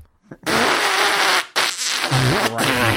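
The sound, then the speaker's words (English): Loud fart noises: a long raspy blast followed almost immediately by a second sustained, sputtering one, with no talking. “If Dad wants to fart, all right, you're eating these beans.”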